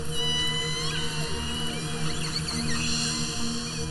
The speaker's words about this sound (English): If you head into the waters off Canada's west coast and drop a microphone, well, a hydrophone, over the side of the boat, you can eavesdrop on the conversations of killer whales.